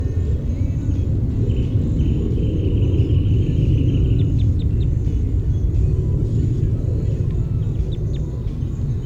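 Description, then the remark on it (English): A wrentit sings faintly, giving brief bursts of quick, high, ticking notes over a steady, heavy low rumble like traffic or engine noise that fills the whole recording. “Five seven with a wren tit in the background.”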